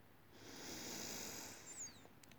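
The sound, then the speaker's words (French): A soft, steady breath drawn in calmly through the nose as a controlled breathing exercise, swelling gently for about a second and a half before tapering off, quiet with no talking. “Inspiration tranquille par le nez.”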